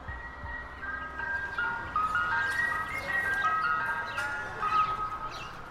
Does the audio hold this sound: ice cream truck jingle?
yes